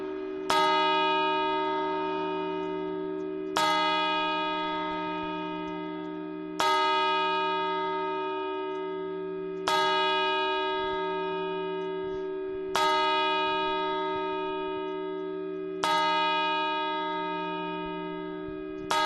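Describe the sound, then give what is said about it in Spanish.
A deep, resonant clock tower bell strikes the midnight chimes slowly and evenly, about six heavy tolls roughly three seconds apart, each ringing out and decaying before the next, with no voices. “Y ahora ya las campanadas.”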